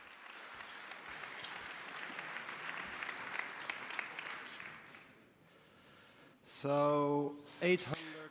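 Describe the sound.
A crowd applauds steadily for about five seconds, a dense patter of many hands clapping that then fades away, after which a single voice starts talking.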